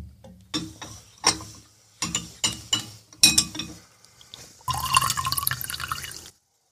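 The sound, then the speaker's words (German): A drink is poured into a glass for a sip during a discussion: a few sharp clinks and knocks of glass first, then a steady, bright rush of liquid for about two seconds before it stops. No one speaks. “Herr Professor, lassen Sie uns kurz mal einen Schluck trinken, damit das Gespräch nicht zu trocken wird.”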